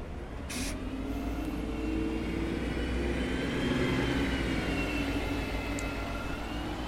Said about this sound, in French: Peut-être que ça nous rassure d'avoir des sons assez fréquents, mais que l'on connaît. On l'identifie facilement. Un bus.